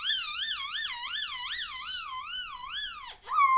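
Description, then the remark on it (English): A child's high voice imitates a police car siren, a steady wail rising and falling in quick regular swoops for about three seconds before a brief dip and a final high note. “Can you make the police car sound for me again?”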